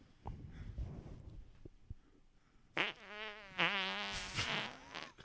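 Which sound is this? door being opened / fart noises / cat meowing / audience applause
fart noises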